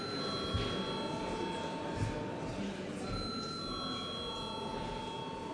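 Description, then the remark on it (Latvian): A parliament voting bell rings continuously for several seconds, a steady, bright electric tone with buzzing overtones that holds level throughout, with a faint murmur of voices beneath it, calling a third and final reading vote on a bill amending the law on the commercial law's entry into force. “Lūdzu zvanu.”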